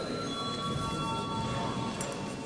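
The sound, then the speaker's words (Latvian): A parliament chamber bell, rung before a vote on a bill in first reading, rings continuously at a steady, loud level, its metallic buzzing tone unbroken for the full duration, with no voices over it. “Lūdzu zvanu.”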